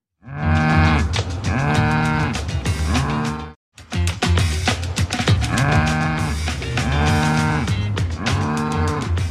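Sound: cow mooing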